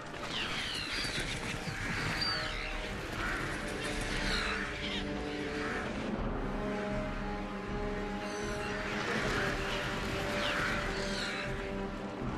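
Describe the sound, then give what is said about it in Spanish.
A large flock of black birds, crebain from Dunland, caws harshly and nonstop, dozens of overlapping calls swelling and fading as they fly overhead almost at ground level, with a rushing, noisy backdrop beneath the din. “Una bandada de aves negras vuela sobre ellos casi a ras de suelo.”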